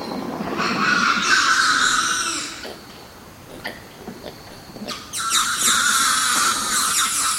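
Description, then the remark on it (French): A dense chorus of many birds crying and singing at once at night, shrill overlapping calls rising in two loud bursts separated by a quieter stretch with scattered sharp clicks. “On les entend pas du tout arriver et tout d'un coup on entend ce concert de cris, de chants, etc.”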